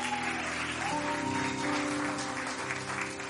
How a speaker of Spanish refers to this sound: y denle un aplauso bien fuerte a nuestro Dios.